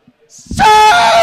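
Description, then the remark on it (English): A single loud, drawn-out hog-calling yell of "Suey!" from a man calling a pig, rising sharply from a breathy start into a sustained, strained cry that holds at full volume. “Suey! Start losing your shit. I mean, that's essentially what they're doing. They're just losing their shit. The pig is going to come, okay?”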